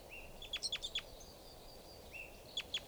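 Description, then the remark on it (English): A lone female bird gives short, high chirping calls in two bursts: a quick series of five sharp notes, a pause, then a slide and two more notes, over a steady low background hiss. “Here's a lone female.”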